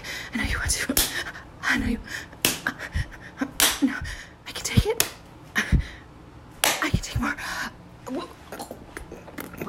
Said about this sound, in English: Come on, slap me more. I know you want to.